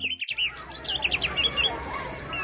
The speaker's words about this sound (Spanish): Por estos tiempos de cambios, aunque algunos de los nacidos en el campo desean vivir en la ciudad, jamás olvidan el trinar de las aves en cada amanecer